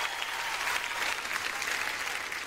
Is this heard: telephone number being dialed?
no